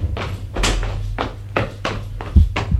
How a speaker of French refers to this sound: Mais Galien ouvre la porte palière et sort.